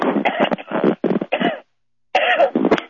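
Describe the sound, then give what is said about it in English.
A loud fit of harsh coughing, several rapid hacks in a row, then a brief pause of silence before another burst of coughs starts up. “oh boy, I'm sorry, I'm coughing.”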